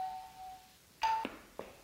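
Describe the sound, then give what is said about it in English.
A doorbell chimes as someone arrives at the door: a soft lingering tone fades out, then a louder bright ding rings briefly, followed by a shorter strike. No one speaks. “I got to run and get the door for Phil.”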